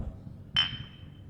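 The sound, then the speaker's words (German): A single bright clink of beer glasses striking together in a toast, with a short ringing tone that lingers and fades over a quiet low background hum. “Genau, aber zuerst einmal trinken wir eins, weil Krise wird erst dann besser, wenn man mal Prost. Ein Bier getrunken hat.”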